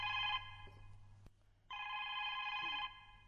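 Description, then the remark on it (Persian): A telephone rings in two long bursts separated by a short pause in the studio of the programme Shaparak. Its bright electronic tone is loud, with a low steady hum underneath and no one speaking. “صدای تلفن است.”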